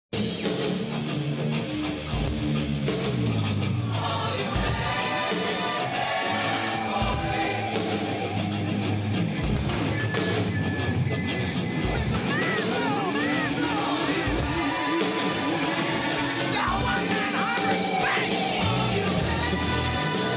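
A loud, dense rock track plays steadily throughout, with driving full-band instrumentation and a strained vocal line that rises into yelling in places.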